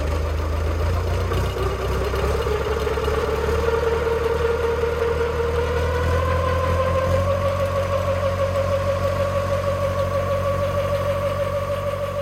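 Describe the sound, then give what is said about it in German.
An old diesel tractor engine chugs steadily and loudly, driving a water pump that pumps water from a ditch onto a field; its low rumble stays constant while the pump's mechanical whine rises slowly in pitch, with no voices. “Und sein wichtigstes Werkzeug im Kampf gegen sie, eine Wasserpumpe, die er mit dem tuckernden Dieselmotor eines alten Traktors betreibt.”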